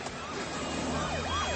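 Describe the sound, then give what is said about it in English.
A police siren wails as the police arrive at a fight on a road among taxis, its pitch sweeping up and down in repeated arcs over a steady wash of loud traffic noise, with no talking. “The police arrive.”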